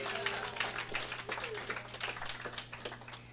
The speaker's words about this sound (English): Give God the hand clap.